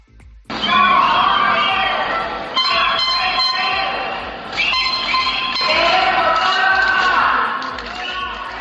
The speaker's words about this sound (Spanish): Hoy movilización multitudinaria en la capital de los autónomos. Han tomado las calles al grito de no más cierres, más PCRs.